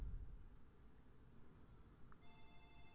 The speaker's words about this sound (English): Damn! Sorry, my phone's ringing. Sorry, guys, ignore that.